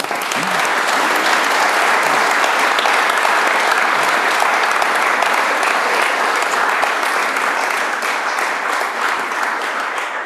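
Sustained applause from a crowd, a dense steady clatter of many hands clapping loudly for about ten seconds without pause, no voices standing out.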